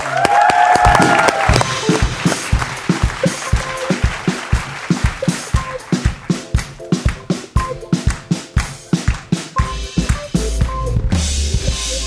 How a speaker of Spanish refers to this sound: Un aplauso para el Chombo.